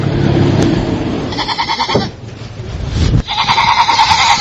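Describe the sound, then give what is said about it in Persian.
Several sheep bleat loudly and repeatedly, overlapping calls with harmonic wavering cries, over a constant low rumble of handling noise and shuffling, as the sheep are loaded at night to be carried to the seashore and onto boats bound for the port of Khasab. “گوسفندان را بارگیری و به کنار دریا انتقال دادن.”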